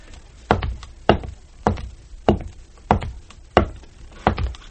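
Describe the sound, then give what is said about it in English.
Heel-and-toe footsteps walking in place on a piece of slate simulating a sidewalk, with the mic held down low: about eight dull, low thuds landing in a steady, even rhythm, a little over half a second apart, with no voices. “What we do is a heel and toe. Okay. Now, I'm walking right in place.”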